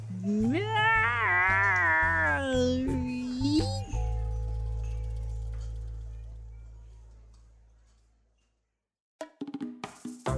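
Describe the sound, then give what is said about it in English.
A person gives a drawn-out, wobbly imitation of a cat's meow, loud, over a low hum that fades to silence before a voice briefly starts talking. “Did we all just hear …'s terrible attempt at a meow?”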